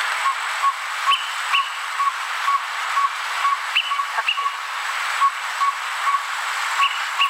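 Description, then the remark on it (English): A Greater Pewee recording from birdsounds.net: the bird calls in a series of short, clear whistled notes, repeated irregularly with a few higher upslurred phrases, all set against a steady hiss of background noise. “And I this is what the Greater Peewee sounds like, so everyone can have an idea of what we're trying to talk about here.”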